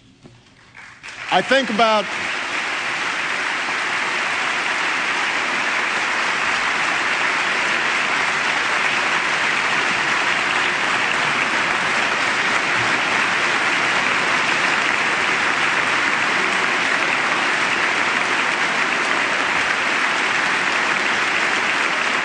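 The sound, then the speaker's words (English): Sustained applause from many people in a legislative chamber, steady and dense after a brief voice at the start, continuing evenly without a break, as people turn to look at a bank president seated in the gallery. “And applause in the chamber as people turn to look at Leonard Abbas”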